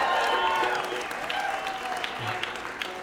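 A crowd claps steadily in a dense, continuous wash of applause that stays fairly loud throughout, tapering slightly toward the end with a few scattered louder claps.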